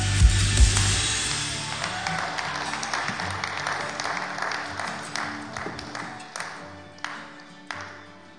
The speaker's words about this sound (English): Wow, come on, we can clap that again. What an incredible, incredible story.